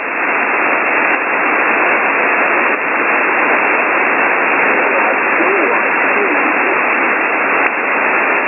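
Loud, unbroken shortwave ham radio static hisses for the whole stretch, a dense muffled roar with garbled, overlapping station signals buried inside it as another station transmits over a caller's signal, and no clear voice coming through.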